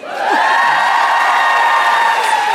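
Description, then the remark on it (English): An audience cheers and whoops loudly with clapping underneath for a woman being introduced on stage, a sustained roar that rises quickly at the start and holds steady throughout. “There was one person at the back not clapping.”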